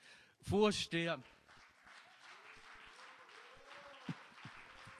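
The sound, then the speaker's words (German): An audience applauds in a steady, crackling wash of clapping that continues throughout, opening with two loud, tonal vocal shouts or cheers, with a few sharper thumps near the end, at the Swiss Big Brother Awards 2007 as Federal Councillor Christoph Blocher is announced winner in the State category. “Danke für den Applaus.”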